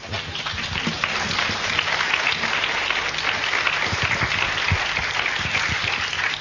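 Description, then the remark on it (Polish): Sustained audience applause at a symposium, dedicated to Jesus: a dense, steady wash of many hands clapping at an even loudness for several seconds, with no voices standing out. “Ale te brawa to dla Jezusa.”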